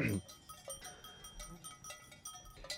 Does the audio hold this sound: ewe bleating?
yes